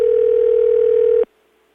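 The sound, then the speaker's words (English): A steady, continuous telephone dial tone hums at an even pitch for over a second, then cuts off abruptly, leaving only a faint residual whine. “And when I finally managed to get hold of her back on the phone, it went something like this.”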